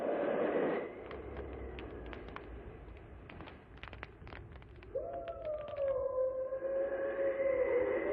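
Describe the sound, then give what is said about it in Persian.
Wolves howl in long, sustained wavering tones, one mournful howl fading early and another rising around the midpoint and holding steady to the end, with scattered faint clicks and a low rumble beneath. “صدای گرگه، باید تمام شب آتش رو روشن نگه داریم.”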